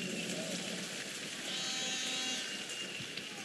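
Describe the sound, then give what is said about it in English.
A church audience applauds for the Lord in a dense, steady wash of many hands clapping at once, holding an even loudness for several seconds with no clear individual claps standing out. “If you are clapping for Jesus, you can make it bigger and louder.”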